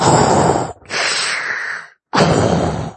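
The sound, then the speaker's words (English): A voice imitates Darth Vader's heavy, mechanical respirator breathing: three loud, hissing breaths in and out in steady succession, with no talking. “And yes, they dressed them up, you know, as the big olive drab goons with the mask, and, you know, all that, marching through the streets like thugs with dark masks, probably breathing like Darth Vader.”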